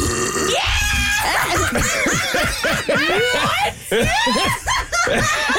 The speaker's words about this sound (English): We need to clip all the burps